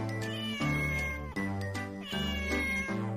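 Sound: cat meowing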